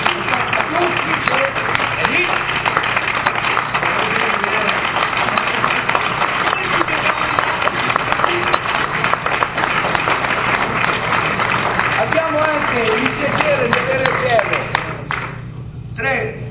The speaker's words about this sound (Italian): Un applauso al nostro presidente nazionale.